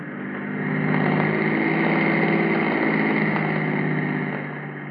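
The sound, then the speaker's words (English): A steady, droning car engine runs at low speed as the car cruises slowly by in the dark at about 2 a.m., fairly loud, with a constant rumble that swells slightly then holds even throughout, no voices. “We'll cruise by slower this time and keep your eyes glued to the car.”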